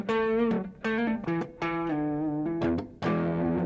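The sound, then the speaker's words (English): An electric guitar played through an overdrive pedal, a series of sustained, gritty, raspy notes and short phrases with a warm, blooming distortion, loud with no talking. “The drive is nice. It's a little more subtle than... But it works. Right. It blooms good. It yeah. gets that distortion.”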